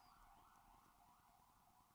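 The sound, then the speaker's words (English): An emergency vehicle siren wails steadily outside, its pitch sliding slowly up and down over a low rumble of traffic, with no voices. “I don't know if you wanted me to hold for that siren.”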